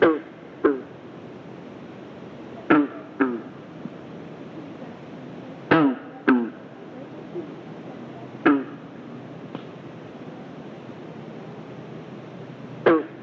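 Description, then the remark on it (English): Green frogs along the shore of Flagstaff Lake in Franklin County, Maine, give short, twangy, banjo-like gunk calls in the evening as campers prepare for the night, often in quick pairs, scattered irregularly over a steady soft background hiss with no one talking. “You are listening to the sound of green frogs as they serenade campers preparing for the evening along the shore of Flagstaff Lake in Franklin County, Maine.”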